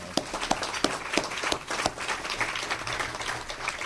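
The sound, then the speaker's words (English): An audience breaks into steady applause for Tom Hannibal, longest-serving mayor of Council Bluffs, many hands clapping at once in a dense, crackling wash, with a few sharper individual claps standing out near the start. “We already gave you a glowing introduction, Mayor, but Tom Hannibal is the longest-serving mayor in Council Bluffs, and I think he does deserve a round of applause right now.”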